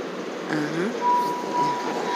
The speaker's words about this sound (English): Yeah, let's get on this train, baby. This train is bound for Doraville Station.